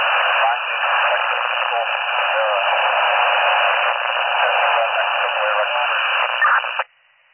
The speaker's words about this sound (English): you are unreadable, it's all static, you're going to go again.